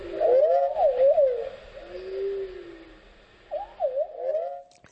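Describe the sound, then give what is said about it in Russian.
Free, improvised music by a musician from an album, accompanied by birdsong and other natural sounds. Mellow, sliding tones swoop and waver like calls, with a soft sustained glide in the middle and a short pause before a final lilting phrase; no voices. “Одновременно с книгой «…» … выпустил компакт-диск под одноименным названием, на котором записаны его импровизации в сопровождении пения птиц и других природных звучаний.”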